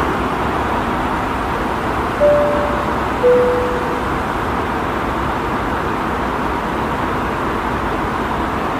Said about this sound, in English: This first clip is going to be recorded straight off the iPhone 11 Pro, and it gives you a great idea of what the ambient sound sounds like on the airplane without any kind of music going on, no headphones in, just exactly what it sounded like.